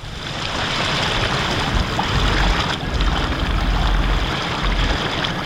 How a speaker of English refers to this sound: We begin speeding down the river.